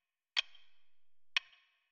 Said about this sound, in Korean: 손으로 막아도 손가락 틈으로 들려오는 시계 소리에 귀가 아파왔다.